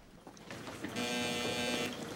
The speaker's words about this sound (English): An alarm sends her and Lulu hurrying into the recovery room